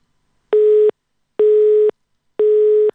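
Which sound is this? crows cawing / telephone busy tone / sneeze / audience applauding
telephone busy tone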